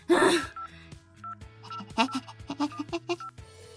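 phone call dialing tones

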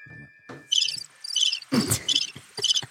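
crickets chirping

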